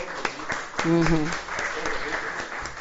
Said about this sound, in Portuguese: Seja bem-vindo, conselheiro. Muito obrigado pela presença. Aplaudi ele, gente, né?